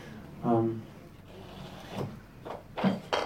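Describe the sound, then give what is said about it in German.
A door slides and shuts, a few soft knocks and thuds of wood settling into place, with a brief murmur of voice at the start. “Ich glaube, es ist gut, wenn wir die Tür zumachen, dann können wir uns leichter konzentrieren.”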